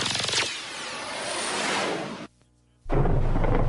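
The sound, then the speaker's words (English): A sharp thunderclap cracks and rolls into a loud, hissing rumble, breaks off into a brief silence, then returns as a heavy, deep rumble of thunder. “Harness the power of nature's thunderstorm to make your home smell fresh and reduce the threat of MRSA, black mold, bird flu, and more.”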